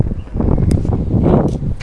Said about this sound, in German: Blöder Wind.